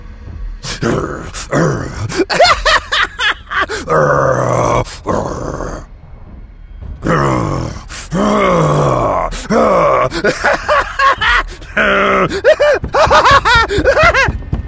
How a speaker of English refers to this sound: He went on twisting the doorknob for a few minutes more while laughing and growling like a maniac.